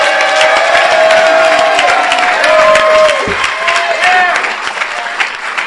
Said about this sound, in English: But I love my area, and I want y'all to give yourselves a round of applause.